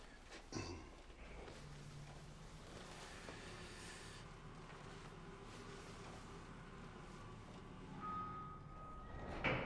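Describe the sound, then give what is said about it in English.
A steady mechanical hum and rumble, like a lift car moving, ends with a single electronic chime and a soft sliding clunk as the doors open. No voices. “Federico steps off the elevator, and the two men share a smile.”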